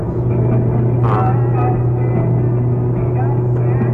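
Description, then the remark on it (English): A school bus engine idles with a steady, heavy rumble and a low droning hum that holds constant throughout, with faint murmuring voices briefly in the background. “And a bus. A real school bus.”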